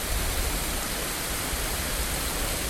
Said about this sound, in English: And the water's crashing down in waterfalls all through it in different spots.